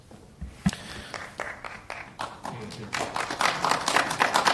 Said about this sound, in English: And I'll just ask you perhaps to keep the applause to a minimum, because although it seems like a spectator sport, this is actually a debate between councillors, and we don't really need...